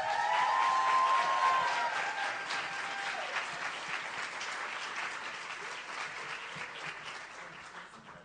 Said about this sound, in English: For our next storyteller, please give a warm round of applause to our next storyteller